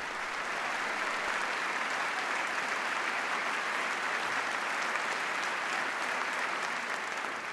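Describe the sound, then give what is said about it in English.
Steady, dense applause from a large audience in response to a speech's pitch for corporate responsibility and new accountability, many hands clapping continuously at an even, loud level for several seconds with no voices standing out. “Lots of applause for this pitch for corporate responsibility and new accountability.”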